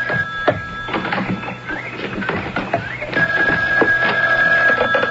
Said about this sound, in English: Oh, excuse me. There's the phone.